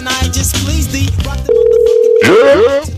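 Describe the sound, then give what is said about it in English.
A loud echo effect with a long delay: a vocal sound ends in a steady held tone, then sliding copies of it repeat one after another, each arriving noticeably late. “It's gotta be shorter than that. Faster. Less delay on the echo.”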